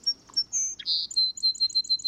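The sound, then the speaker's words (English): A bird sings in winter: a short, high-pitched song of clear whistled notes, starting with a few varied phrases and ending in a quick, steady run of about seven repeated bright chirps, with no voices. “quite a few birds that don't migrate will keep singing, even just a little bit, right through the coldest time of the year.”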